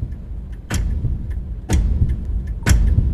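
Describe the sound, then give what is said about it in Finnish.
Sharp, distinct ticks of a clock in a sterile room sound at a steady pace of roughly one per second, with fainter clicks between them over a low, constant background rumble. “Taustalta puuttuu vain musiikki ja muut osallistujat, mutta tässä kellon tikityksen täyttämässä steriilissä huoneessa olisin ottanut nekin.”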